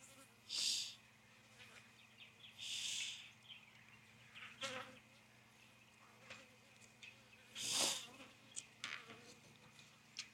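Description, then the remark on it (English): Honey bees buzz around queen cell cages in several loud, swelling passes, with quieter droning, scattered clicks and a steady low hum filling the gaps between. “board on here because these cages do not stick in here with the full weight of the queen cell and the cage and, of course, the worker bee.”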